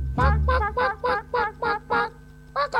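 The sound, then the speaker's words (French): A chicken clucking sound effect played on the jazz radio station Radio U: about nine clucks in a quick, steady series of loud nasal calls, with a brief pause before the last one. A low rumble sits under the opening call, and nobody speaks. “et un petit poulet pour continuer.”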